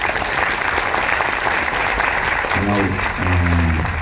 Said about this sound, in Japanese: それでは拍手でお迎えください。ダンテランカーです。